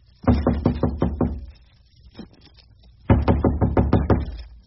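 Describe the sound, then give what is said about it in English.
Two bursts of firm knocking on a hotel room door on the 14th floor, each a quick run of about six raps, separated by a pause with a faint shuffle; fairly loud, with no voices. “Ah, go on, knock.”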